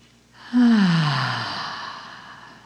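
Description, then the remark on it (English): A deep breath, taken in through the nose and released through the mouth as a long, soft sigh with a slight voiced tone that falls away. Fairly loud, with no talking. “Big breath in through your nose. Let it out through your mouth”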